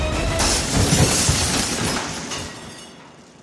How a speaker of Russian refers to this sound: Окно разбивается на мелкие осколки